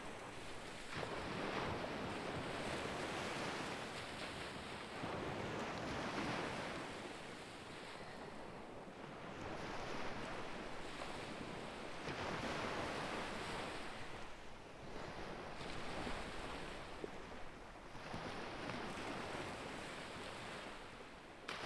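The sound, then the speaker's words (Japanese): Ocean waves roll in and break on the shore in a steady, repeating rhythm, each surge washing up loudly before receding, with a constant hiss of surf and some wind in between. “私が海行けなかったな。お仕事とか忙しかったし、こんなにゆったりできるの久しぶりかも。”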